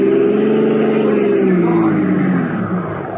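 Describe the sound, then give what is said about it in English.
A car engine roars, revving hard as it accelerates, its loud droning hum shifting in pitch over a few seconds before easing slightly at the end. “Now, run his car into the curb, right?”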